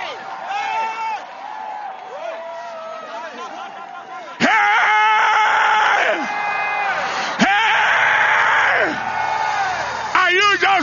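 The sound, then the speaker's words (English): A person screams loudly in a string of strained, wavering cries that jump even louder partway through, with several sharp bursts in quick succession. “Like that, will you stand up and scream?”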